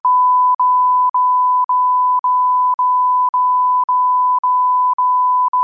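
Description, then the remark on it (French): A loud, steady high-pitched censorship bleep tone plays alone, broken by brief regular dropouts about twice a second, with no voices audible underneath. “Et encore, si je me retenais pas, ça donnerait un truc avec plein de bips partout si je disais ce que je pense réellement”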